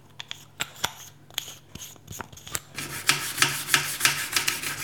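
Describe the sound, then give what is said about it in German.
Scrubbing burnt-on pancake residue off a kitchen stovetop with an old toothbrush and toothpaste: sparse scratchy strokes at first, then a dense, rapid run of rough, bristly rubbing that grows louder and steadier. “Also ich musste halt jetzt an den hartnäckigen Flecken, die echt schon so ein bisschen eingebrannt waren, da musste ich echt richtig, richtig lange schrubben.”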